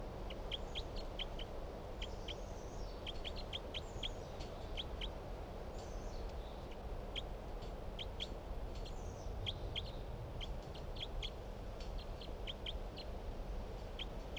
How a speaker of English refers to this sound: 9:27 a.m. and these are the calls of bird 366.